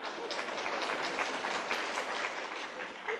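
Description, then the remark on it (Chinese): An audience at a lecture claps steadily for about three seconds, a dense, even wash of crackling applause at moderate volume with no voices over it. “呢啲掌声嗱，真係好老实讲50分嘅啫。”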